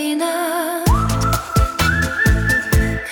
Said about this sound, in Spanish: Y mientras silbas esa vieja melodía, yo guardo el plano de esta ruina.